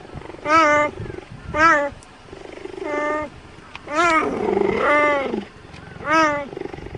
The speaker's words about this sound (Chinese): 你没有听错，猎豹叫起来就是这个样子的。它们的声音不但一点也不威武霸气，甚至还有一点软萌呢。这主要是因为猎豹的声带结构跟其他大型猫科动物是不同的，它们咽喉部位的舌骨比较坚硬，所以发出的声音微小而尖细。